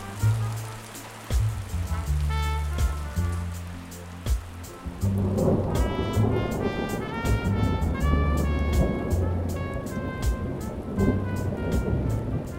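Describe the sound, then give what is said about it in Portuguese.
Steady rain pours down with deep rolling thunder underneath. The downpour thickens after a few seconds, and a faint melodic tone drifts over the hiss. No one speaks. “O tema do nosso programa de hoje é a chuva.”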